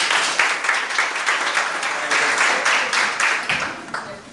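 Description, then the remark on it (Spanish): An audience applauds steadily, a dense wash of many hands clapping at once, loud and sustained without a break for the whole stretch, with no voices standing out. “Usted recibe un tremendo aplauso y van a venir.”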